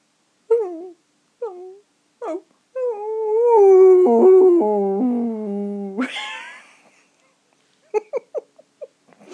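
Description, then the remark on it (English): A person imitates a dog: a few short yelps, then a long wavering howl that slides downward and breaks off, followed by quick whimpering yips. Fairly loud, with no talking. “Dogs yap. Dogs bark. Dogs howl. So try a bit of that. A bit of a howl first.”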